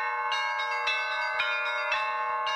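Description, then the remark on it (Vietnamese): Bells of an Eastern Orthodox church on a sparsely populated island in Antarctica ring in a busy, overlapping peal, rung by the priest to call worshippers to mass. Sustained metallic tones and repeated sharper strikes every half second or so, fairly loud and steady with no voices. “Những tiếng chuông vang lên từ một nhà thờ chính thống giáo phương Đông ở miền cực Nam của thế giới.”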